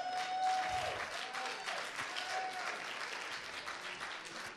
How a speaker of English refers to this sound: Give yourself a clap.